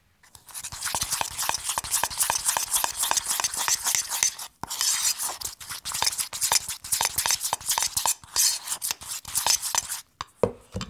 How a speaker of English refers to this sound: I'm just going to mix this up. If it needs a little more liquid, I'll just add a teeny bit of milk or water to that. I'm just going to mix that up till it's a good consistency for spreading, and then I'm going to assemble the sandwich cookies.